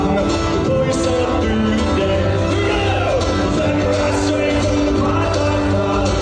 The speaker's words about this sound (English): And you hear when it kicks in. Entire crowd singing.